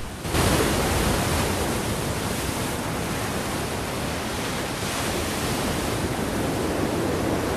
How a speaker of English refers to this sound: She stands and slowly walks towards the edge of a rocky headland, her small figure dwarfed by the ocean, which churns and breaks, breaks and churns.